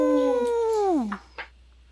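A pack of wolves howls in reply: a long, clear howl holds steady for about a second, then slides downward and fades, followed by a couple of soft, brief rustling bursts. No one speaks.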